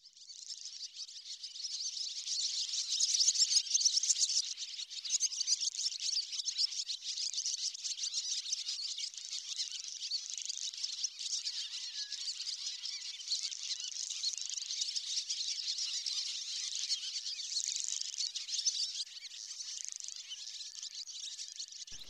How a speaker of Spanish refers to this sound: El sonido de las golondrinas asocia siempre con mi abuela, la madre de mi madre, que vivía donde había muchas fincas. Aquí la golondrina.